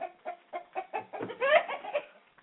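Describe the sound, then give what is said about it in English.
Two roosters call in a quick run of short, rhythmic clucks that swell into a longer, strained crow, then trail off. No voices are present. “Those are the two roosters.”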